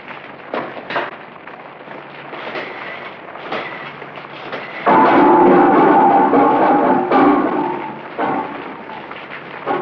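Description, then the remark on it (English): A soft patter of rain with scattered taps grows abruptly into a loud, dense downpour about halfway through as a storm arrives, a low thunder-like rumble rolling beneath it, with no wind. No voices. “Oh, here comes the rain.”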